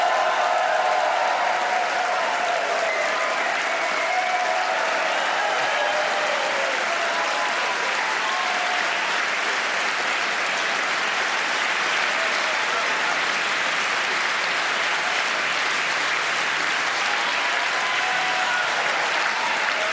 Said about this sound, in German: Daher halte ich jetzt einfach mal meine Klappe und rufe den Schweizer Stierträger 2024 auf die Bühne. Bitte klatscht kräftig in die Hände. Da ist er, Dominic Muheim!